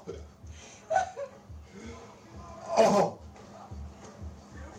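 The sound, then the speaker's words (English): A single loud, wet sputter of a person spitting out dog food, bursting up briefly near the middle, with chuckling and soft voices murmuring around it and a low rumble underneath. “Yep. He's spitting it out.”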